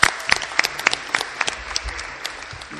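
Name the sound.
assembly applause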